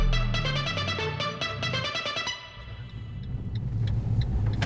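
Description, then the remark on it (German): A short musical jingle with a steady beat fades out, giving way to the low, continuous rumble of a car driving on the road toward the Baltic Sea coast, heard from inside the vehicle. “sitzen im Auto Richtung Ostseeküste.”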